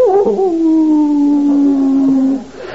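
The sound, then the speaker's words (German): A voice imitates a jackal's howl: one long, loud wavering note that starts high, slides down and holds steady for about two seconds before cutting off. “Da war in der Ferne ein Jackal, glaube ich.”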